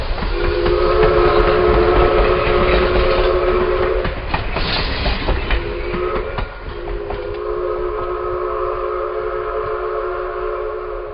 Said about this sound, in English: And soon, trains may be rolling down those tracks again.